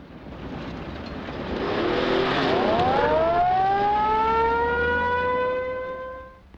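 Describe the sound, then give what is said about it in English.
A police siren wails as a police car speeds away from a camp, its pitch climbing steeply and then holding a long, steady tone over a low engine rumble before it fades slightly at the very end. “A crowd of people in the camp stare after the police car as it speeds away.”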